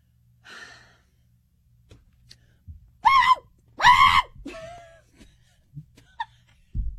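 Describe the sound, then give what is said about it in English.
A person vocally imitates a dog's screaming bark: two loud, harsh, strained yelps in quick succession, preceded by a breathy sound and followed by quieter breaths and small noises. “Is that what you think it sounded like? Screaming bark.”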